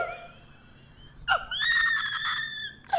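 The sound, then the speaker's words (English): A person lets out a loud, sharp, high-pitched scream lasting over a second, followed by a brief rising shriek at the end, with no talking. “Why did you just scream at me?”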